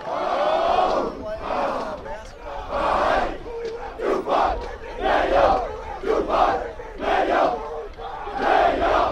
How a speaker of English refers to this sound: We're about 30 minutes before kickoff. The teams are on the field. They're doing their drills. They're clapping their hands. They're doing their chants.